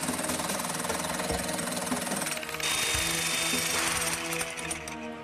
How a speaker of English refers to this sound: We're through the cement! Okay, great, but we gotta keep drilling.